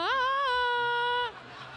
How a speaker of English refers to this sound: Okay, and just as a reminder, I am violently screaming. No scream. Give him your scream, sister.